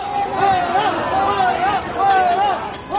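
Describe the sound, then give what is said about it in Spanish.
A dense outdoor protest crowd at Madrid's Hospital de la Paz, during a visit by Pedro Sánchez, shouts "fuera" and boos in a steady loud roar, with sustained jeering voices rising and falling, and a few sharp metallic clangs of pots being banged near the end. “La visita planificada en el último minuto al madrileño Hospital de la Paz se ha saldado con gritos de fuera, abucheos y el ruido de alguna cacerola.”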